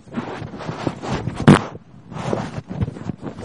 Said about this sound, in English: You shut up, I'm going to fart on the phone, listen to my fart.